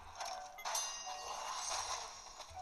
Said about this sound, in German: Ach, diese Glocke. Ja. Ich habe die Quest ewig nicht mehr gemacht. Komm, ich fliege jetzt dagegen.